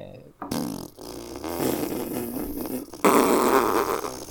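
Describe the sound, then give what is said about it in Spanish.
Someone blows loud, sputtering raspberries with their mouth, imitating a long fart. The buzzy noise wavers for several seconds, then surges into a louder final blast. “Bienvenido a Jueguitos, el podcast donde hacemos muchos ruidos de pedos.”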